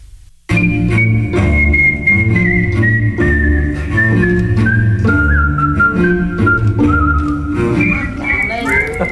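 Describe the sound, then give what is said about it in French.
A person whistles a wavering, continuous melody over a loud, steady musical backing with a regular beat. No one speaks. “Alors, non, pour ce qui est de siffler, je fais le job.”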